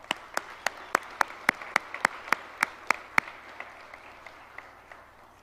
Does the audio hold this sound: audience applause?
yes